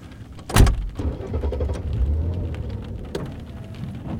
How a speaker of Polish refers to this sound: W tym momencie przed szkołę zajechał samochód.